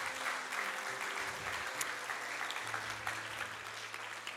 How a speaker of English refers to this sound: In Jesus' name. Amen. Come on, give him the applause. Yeah.